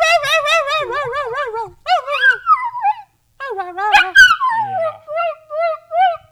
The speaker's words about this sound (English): That's an actual dog noise, it sounds like.